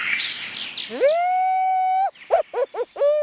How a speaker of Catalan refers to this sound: Sentiu aquest crit? No és cap índia de les muntanyes Apalatxes. És una senyora de Santa Bàrbara, al delta de l'Ebre, fent l'orrijijiu.